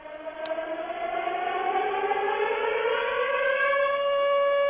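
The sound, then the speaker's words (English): A civil defense siren heard over a medium-wave radio broadcast, its steady wail slowly climbing in pitch, muffled and band-limited with a faint hiss and hum behind it. “Yes, sirens all day.”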